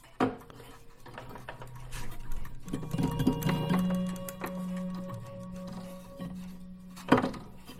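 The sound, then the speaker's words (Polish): The chime of a mantel pendulum clock with a broken striking spring is struck by hand, giving a metallic ringing tone that sustains and slowly fades, framed by a couple of sharp knocks, with no talking. “rozwaliła sprężyna, pękając cały hak, wszystko trzeba odlewać od nowa, no i niestety jedyne dzwonienie, jakie sobie można tu porobić, no to tak o.”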